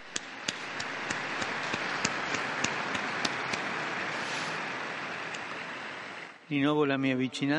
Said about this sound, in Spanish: Un aplauso para los nuevos beatos.